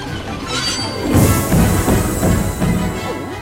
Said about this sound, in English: Pluto startles awake. His car tips and dumps him and the grain into a large container.